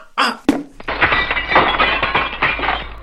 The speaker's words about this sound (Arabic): أصابت الكرة زجاج الشباك وكسرته.